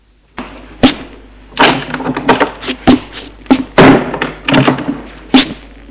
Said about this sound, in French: Et il sort de la chambre en claquant la porte.